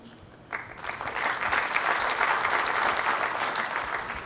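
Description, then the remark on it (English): Polite applause from an audience: a dense, even patter of clapping starts abruptly after a brief quiet moment and continues steadily at moderate loudness without swelling or cheering. “Right, polite applause, because well, you actually sort of gave us those features in the CTP, and we sort of were expecting them anyway.”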